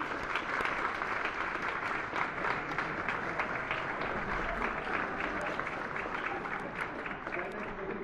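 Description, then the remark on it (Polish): Steady, dense applause from an audience at a meeting, many hands clapping together at an even level for several seconds with no pauses, a continuous bright patter without speech on top. “zabezpieczenie, żeby do nas stosowny certyfikat nie dotarł, ale proponuję oklaski, że oklaskamy.”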